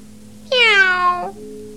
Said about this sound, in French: Un chat.